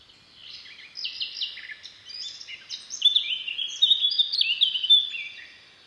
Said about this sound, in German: Da singt am Hang, wo die ganzen jungen Bäume jetzt wachsen, in einer Lücke, wo ein alter Baum umgefallen war, singt eine Mönchsgasmücke. Das ist eine der schönsten Vogelstimmen, die es bei uns gibt.